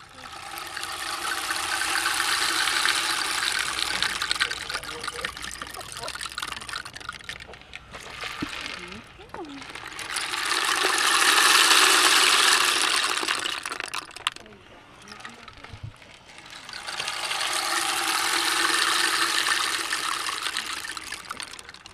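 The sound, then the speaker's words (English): An enormous 4-foot-long rain stick at an arboretum is turned three times, each pass a long swelling cascade of dense, gritty patter that builds, peaks and fades, with brief quiet gaps between the rushes. “Now, some other Terrascopers found an enormous 4-foot-long rain stick there, and they thought it made a really interesting sound.”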